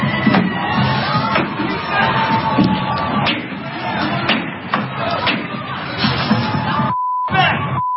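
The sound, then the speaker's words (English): A loud outdoor protest crowd, the anti-capitalist bloc of Disrupt J20, shouts and murmurs while sharp bangs and crashes of Starbucks windows being smashed ring out repeatedly. A steady electronic beep sounds briefly near the end. “If only they put as much energy into having an actual argument as they did smashing Starbucks windows.”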